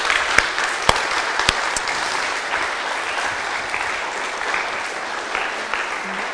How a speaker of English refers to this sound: The first thing is that today marks 1 year that we coveted together to organize and to establish Grace Harbor Church, New Bedford, and that's worthy of celebrating, okay? So let's clap for that.